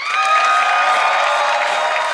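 The studio audience of Conan O'Brien's show cheers and applauds loudly as a band is introduced, a dense, steady wash of clapping with high whoops and shouts layered on top, sustained without a break.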